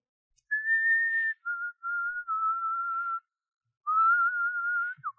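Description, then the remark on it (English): Someone whistles a simple tune, clear, steady notes held one after another in a phrase that pauses briefly midway, fairly loud with no talking. “What's that you're whistling?”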